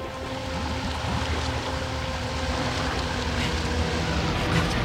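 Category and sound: vehicle, motorboat approaching on water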